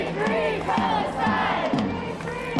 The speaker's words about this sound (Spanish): Palestina libre, gritan en acampadas en más de 20 campus contra Israel y también en solidaridad con los estudiantes detenidos en Texas, en Los Ángeles, en Boston.